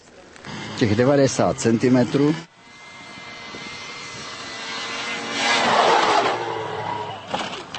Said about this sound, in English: The first to have this snow machine around here was the Mountain Rescue. This was the second model in the area and the first privately owned. It's a real workhorse. It has 2 tractor treads and leaves a path 90 centimeters wide.